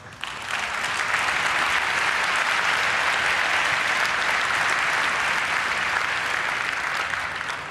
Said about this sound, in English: Your applause.